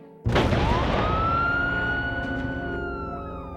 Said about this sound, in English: I heard the sound of the ambulance stopping nearby.